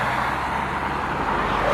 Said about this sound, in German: Ganz schön viel Verkehr. Ja, ganz schön viel. Auto 2 und 3.